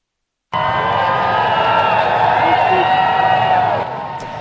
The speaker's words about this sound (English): A hearty cheer from the crowd as King Charles III arrived in Berlin Wednesday for his first foreign trip as Britain's monarch. Charles and Camilla, the Queen consort, arrived in Berlin in the early afternoon.